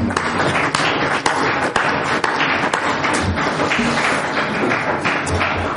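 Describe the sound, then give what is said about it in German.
A dense, steady wash of audience applause for a speaker after a talk at a university event, many hands clapping at once with a few sharper claps standing out, sustained at an even loudness throughout without any talking. “Meine Damen und Herren, ich bitte Sie um einen ganz herzlichen Beifall”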